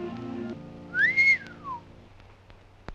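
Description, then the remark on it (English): A single short whistle from a person, rising then gliding down, clear over a low background hum, followed by a faint click. “What'd you whistle for?”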